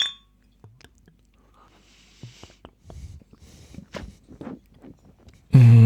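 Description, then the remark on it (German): A few light glassy clinks ring out in a toast amid scattered soft clicks and handling noises, fairly quiet, before a sudden louder rumble cuts in at the very end. “Dann sag ich mal, Prost. Jo, Prost.”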